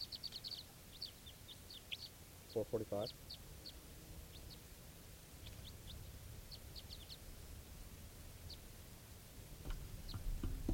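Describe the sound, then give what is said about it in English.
A played recording of wild bird calls, bird call 445, used with decoys and a net: short, high-pitched chirps and tweets repeat in loose clusters throughout, fairly faint over a steady low rumble, with a brief spoken voice cutting in once early on. “That's wild birds coming in.”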